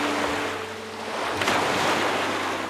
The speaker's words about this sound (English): So the sounds that came to me when I was a boy were the sounds of the environment, were the sounds of insects singing and the sounds of water against the shore.